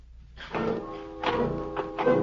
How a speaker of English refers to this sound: I began to hear things. I heard footsteps following me. But when I stopped, so did the steps.